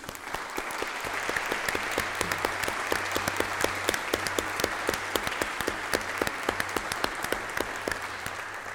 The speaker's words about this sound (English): And I think they deserve our applause.